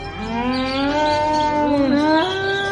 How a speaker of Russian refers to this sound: Коровы смотрели на Кришну, и когда он звал их по имени, радостно мычали ему в ответ.